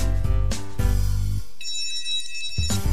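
An alarm clock rings loudly at 7:15 in the morning with bright electronic tones in short repeated bursts, shifting to a thinner, high-pitched ringing partway through before the fuller tone returns.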